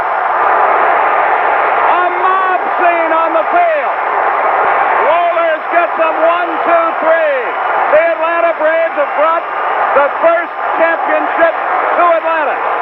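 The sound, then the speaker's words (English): A huge baseball stadium crowd roars and cheers without letup after the Atlanta Braves' championship win, as Grissom runs down a deep fly ball to left center, a dense, loud wall of voices with individual shouts rising and falling over the din. “I've given you a championship. Listen to this crowd.”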